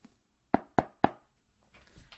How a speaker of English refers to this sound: I arrived on Sunday and knocked on her door.